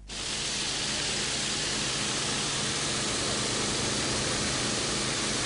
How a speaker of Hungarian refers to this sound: Gőzerővel dolgoznak a szivattyúk a Népszigeten. Egy-egy ilyen berendezés óránként 2500 liter vizet képes visszajuttatni a Dunába a sziget mélyebben fekvő részeiről.